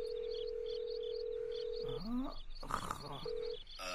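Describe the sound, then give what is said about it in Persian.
A steady telephone dial tone hums for about two seconds, cut by a brief burst of handling noise and button presses as someone dials the police operations number, then the tone briefly returns, with faint background chatter throughout. “بهتر است با عملیات پلیس تلفن کنم. باش که نمبر عملیات پلیس رو بگیرم.”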